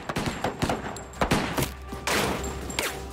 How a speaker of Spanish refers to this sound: Todos los sospechosos salieron de la caja disparando. Los cartuchos de 6 disparos de los oficiales rebotaron en los chalecos antibalas que llevaban todos los de la banda.